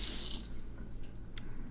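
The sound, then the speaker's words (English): A faucet gushes tap water into a cat's small water cup for about half a second, loud, then shuts off, leaving quiet and a faint clink. “That's fresh kitty water for you. I just filled up the kitty cup.”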